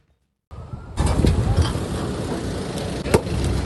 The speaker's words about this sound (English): A truck is loaded with debris and rotten furniture in West Ballina, a town in northern New South Wales, as the state's Rural Fire Service works beside locals to clean up the town.